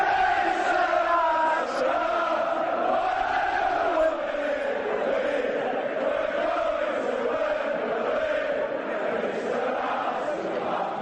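A large football crowd sings a chant in unison, a dense wash of many voices rising and falling in a steady melodic line, loud and continuous throughout without any break.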